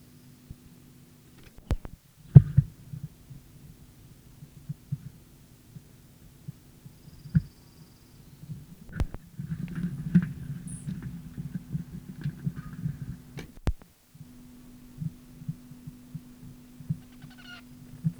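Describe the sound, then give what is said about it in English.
A bird's dive, recorded around 10 a.m. in the area of a bird studied the day before: a few sharp knocks and a rumbling, throbbing stretch over a steady low hum, with no voices. “The dive we just heard was by the bird started yesterday, in which area I am by 10 o'clock a.m.”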